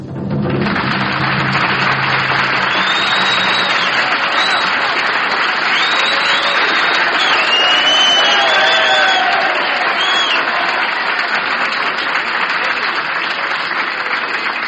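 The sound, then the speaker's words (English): Loud, sustained applause from a large audience at a live concert broadcast from the Palm Gardens in Columbus, Ohio, greeting the conductor; a dense wash of clapping with scattered whistles and cheers rising above it. “First thing that I'd like to say this evening is thank you for the reception. Magnificent rubato movement and applause here.”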